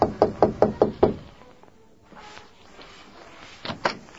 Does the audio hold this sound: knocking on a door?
yes